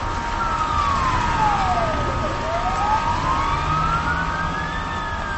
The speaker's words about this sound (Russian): приняли решение о незамедлительном сопровождении автомобиля до родильного дома с использованием специальных световых и звуковых сигналов.